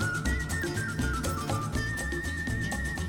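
A 1967 recording of a British whistler: a person whistles a clear, sustained, very loud melody, sliding between pitches and holding long notes for about three seconds over a dense, steady backing sound.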